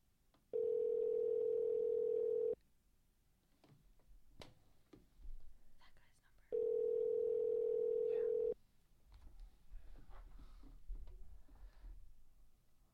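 An outgoing phone call ringing out unanswered before reaching voicemail: two loud, steady two-second ringback tones at a mid pitch, separated by a four-second pause filled with faint clicks and low background noise.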